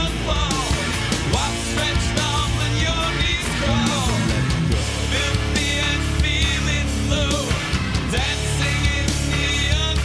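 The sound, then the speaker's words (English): The end of a rock song: loud, dense rock music with shrill, high-pitched screaming vocals wailing over heavy guitars and pounding drums, sustained at full intensity throughout. “The end where they start screaming and getting high-pitchy and shrill and just kind of noise.”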